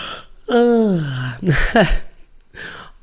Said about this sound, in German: Und eine körperliche Reaktion kann das Gähnen sein. Und ich merke es gerade. Oh je.